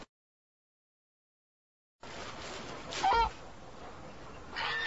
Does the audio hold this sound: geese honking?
yes